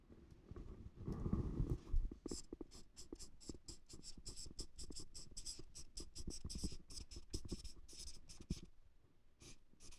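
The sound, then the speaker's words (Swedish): A marker squeaks and taps across a board in quick, irregular strokes, fairly loud, with a low thump near the start and no one speaking. “Syns det längre bak? Har du bättre penna?”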